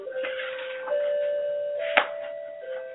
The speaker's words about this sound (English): And that was our 8 o'clock bell.